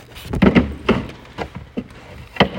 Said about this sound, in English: Door closed behind me. Did it? Real squeaky and really. Yeah. That's fucking door.